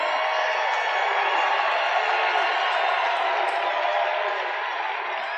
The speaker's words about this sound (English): And I don't think I've ever introduced anyone that got applause like he just got. I must tell you, I don't think it's true. I don't think I've ever introduced anybody that got applause like that.